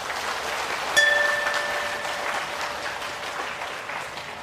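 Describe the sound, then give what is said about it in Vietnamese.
A crowd at a Buddhist talk breaks into sustained, dense applause, a steady wash of many hands clapping that holds at a strong level throughout, with a brief high ringing tone appearing near the start. “Nếu như các bạn thấy là lời khuyên của thầy dựa vào tinh thần Phật dạy đó là hữu lý và nên làm theo, thì hãy cho một tràng vỗ tay thật lớn.”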